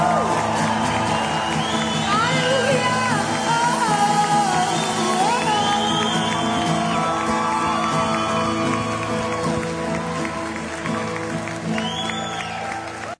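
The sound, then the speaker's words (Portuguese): An audience claps and cheers loudly and steadily for about thirteen seconds, applauding the Lord, with whoops and a voice shouting out over the dense, sustained crowd noise and tonal background. “Aplauda o Senhor com toda a força do seu coração.”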